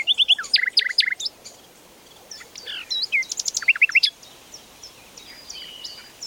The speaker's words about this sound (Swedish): Det var till exempel fågelkvitter i en skog.